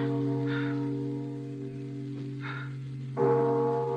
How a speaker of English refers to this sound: That's not suggestion, Father. Sir, I'll stake my Bible oath. There's nobody in that belfry. Bells can't ring by themselves, old man. There's somebody pulling the rope up there, and we're going to find out who it is.